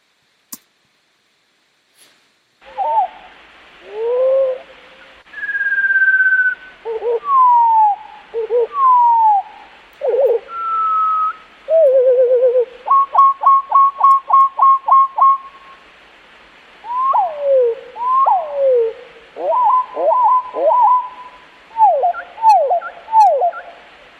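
A sparrow's song slowed down five times, turned into deep, drawn-out whistles and swooping slides, with a quick run of repeated notes midway, heard clearly on its own without any talking.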